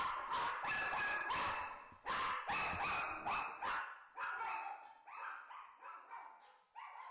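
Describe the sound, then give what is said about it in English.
Several dogs at the Poodle Ranch bark repeatedly and excitedly, sharp overlapping yaps in a quick, uneven rhythm that continues throughout with no talking. “Well, the dogs are very happy. They are. I'm at home all the time, and they're running like crazy in the backyard.”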